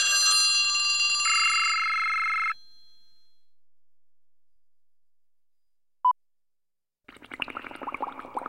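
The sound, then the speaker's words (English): Three telephones ring in separate bursts: a loud, bright bell-like ring for a couple of seconds, a pause with a single short beep, then a rattling trill of another phone ringing. No one speaks. “Three, phones.”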